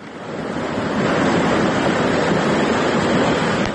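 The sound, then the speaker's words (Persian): A steady, loud roar of floodwater after heavy rain rushes through the streets of the village of Vorukh, Isfara, a dense continuous wash of noise that swells in over the first second and then holds without a break. No voices. “در نوارهایی که کاربران فرستادند دیده می شود که کوچه های دهه ورخ در زیر آب قرار دارند و ساکنان تلاش دارند اشیای روزگار خود را از آب بیرون کنند.”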